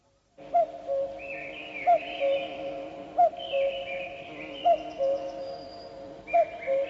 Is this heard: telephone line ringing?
no